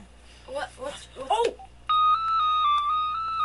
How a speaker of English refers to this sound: What? Oh! The phone's ringing.